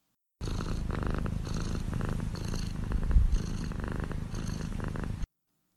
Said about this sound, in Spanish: ¿Qué es eso que suena? Sí, es el ronroneo de un gato. Y si quisiéramos escucharlo mejor, tendríamos que poner mucha atención, teníamos que acercarnos mucho al gatito y ponerle mucha atención para escuchar cómo ronronea.